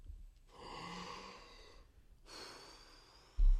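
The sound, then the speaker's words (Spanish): A drawn-out yawn during an Onda Madrid radio broadcast: a long breathy inhale followed by a slower airy exhale, with no talking, ending on a brief low thump. “Buenas, aunque más que aire ha sonado bostezo, pero bueno, trataremos de no aburrir.”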